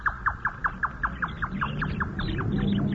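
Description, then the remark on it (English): A Japanese jungle bird calls in a fast, steady run of about a dozen short, downward-sweeping chirps that gradually soften, over a low, rumbling background. “That's a Japanese jungle bird.”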